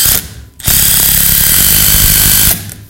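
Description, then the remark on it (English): A power drill whirs loudly and steadily for about two seconds, driving a screw into boards during a church sermon, with a brief spin-up before and a quick stop at the end; no talking. “It's always a good Sunday sermon when you got a power tool in church.”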